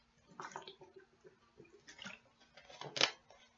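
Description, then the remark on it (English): Quiet sounds of someone drinking water: a few soft sips and gulps in irregular bursts, ending with a brighter splash or clink of liquid. No talking. “Let me get the water out of the way first thing.”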